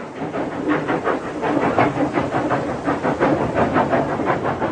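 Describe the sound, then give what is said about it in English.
A train carrying a king's body to Belgrade rolls steadily along the rails with a continuous rumble and hiss, its wheels clacking in a regular rhythm, loud with no voices. “The king's body is returned to Belgrade by train.”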